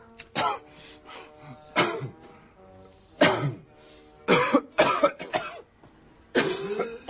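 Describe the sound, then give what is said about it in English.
A man coughs hard and repeatedly in a loud fit, with clusters of harsh barking coughs separated by brief gasping pauses, some strained throat-clearing between bursts. “My man ain't cough like that since back in the day, yo.”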